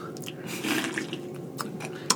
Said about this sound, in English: Sip on my beer here. There you go.